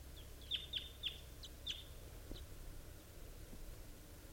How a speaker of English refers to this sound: There are wild birds coming in.